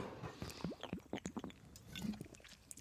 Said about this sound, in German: Ich werde nicht schmatzen, aber das Gluckern lässt sich leider nicht vermeiden, wenn man direkt aus der Flasche trinkt.